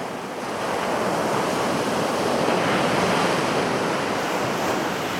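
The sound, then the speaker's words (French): A steady, full rush of wind blows without pause, swelling slightly after the first half second and holding a dense, even roar throughout, with no voices. “J'aime entendre le son du vent.”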